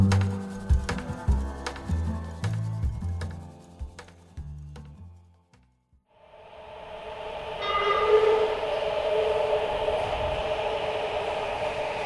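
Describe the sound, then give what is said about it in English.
A short music passage ends in a brief pause, then a train pulls in to a train platform, its rushing rumble and high metallic whine swelling to a steady, loud roar. “You get down to the train platform and appreciate the cool wind or breeze or whatever you call the rush of air the train brings before it arrives, before you even see it or its lights, because of how much it cools your sweaty head.”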